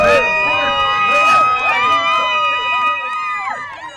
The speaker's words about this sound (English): As she approaches the finish line, the crowd roars.